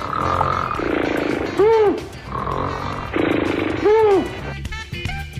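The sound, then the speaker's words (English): Two loud, rhythmic snores from Jerome 'Curly' Howard, each a rough, rattling buzz followed by a rising-and-falling whistling tone, repeating at an even pace with no talking. “I believe that was him snoring in the background.”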